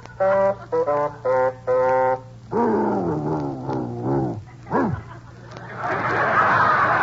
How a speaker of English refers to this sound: Well, Baldy, you can sing. You're a singing dog.